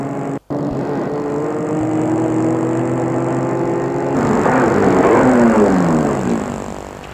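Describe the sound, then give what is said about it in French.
A car engine hums steadily, then its pitch shifts and wavers midway as a woman drives toward Boulevard Velázquez, slows and maneuvers to park her car, with no voices present. “Elle se dirige vers le boulevard Velázquez. Une fois là-bas, elle va garer sa voiture de telle sorte qu'elle puisse voir la maison des Francs Blancs.”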